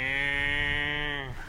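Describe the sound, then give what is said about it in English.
A single long cow moo, loud, holding a steady droning pitch for over a second before sagging and trailing off at the end; a cow kept down the field. “On down the field, they always kept cows.”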